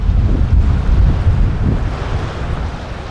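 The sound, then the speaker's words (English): Blustery wind buffets the microphone over a steady wash of surf, waves rolling in at Williamstown Beach in Melbourne, loud at first then easing slightly, with no voices. “On the other side of Melbourne, at Williamstown Beach, there's a group of open water swimmers called the Williamstown Mussels, and they swim together all year round.”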